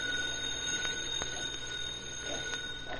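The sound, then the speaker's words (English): A payphone's bell rings continuously with a steady metallic trill in a neighborhood drugstore around 7 o'clock in the evening, moderately loud, with no voices over it. “It's okay, Pup. It's for me. I've been expecting a phone call.”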